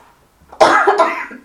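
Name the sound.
coughing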